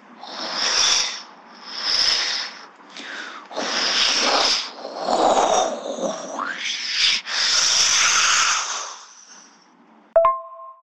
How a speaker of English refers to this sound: And as I told her all this, the waves began crashing louder like this.